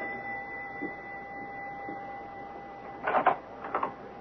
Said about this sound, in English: Listen, the doorbell is ringing.